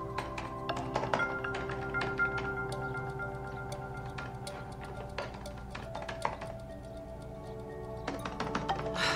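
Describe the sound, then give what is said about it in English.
Rapid, irregular keyboard clicks tap away in quick bursts with short pauses as a woman types the words of a novel into a Word document on her laptop, over a soft sustained musical drone. “She reflects a moment and then starts typing the words.”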